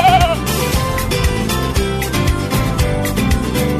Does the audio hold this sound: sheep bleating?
yes